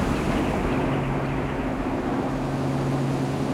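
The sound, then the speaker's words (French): A deep, steady horn drone of a cruise ship leaving the port of Le Havre, processed into an ambient track, holds two low sustained tones over a constant wash of windy, surf-like noise, with no one speaking. “Là, en fond, oui, en fait, c'était le tout début du son d'un klaxon de bateau de croisière qui partait du port du Havre.”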